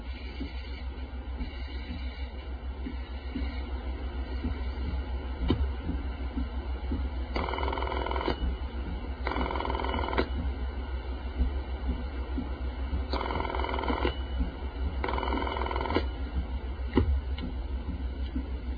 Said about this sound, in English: be able to hear not only what you heard as you were dialing the number, but also through the mouthpiece of the handset, you'll be able to hear the switching equipment working. Let's first dial a working number in the step using the touch tone phone.